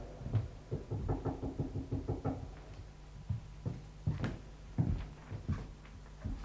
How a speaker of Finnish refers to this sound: Ei henki voi ruumista arkkuun yksin jättää ennen kuin 7 päivää on kulunut. Niin kauan se koputtaa, kunnes reikä on arkun kanteen kulunut.